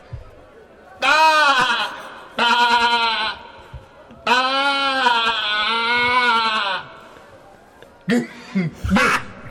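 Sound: sheep bleating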